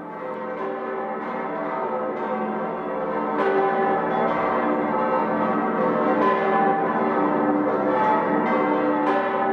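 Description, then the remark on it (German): A full peal of the nine bells of Freising Cathedral, the largest surviving Renaissance peal, cast by Wolfgang Steger the Younger in 1563, rings continuously, many bells overlapping in a dense, sustained wash of tones with repeated strikes, loud and resonant, with no voices. “Das Geläut des Freisinger Doms, das wir gerade hören, ist mit 9 Glocken das größte erhaltene Renaissance-Geläute der Welt.”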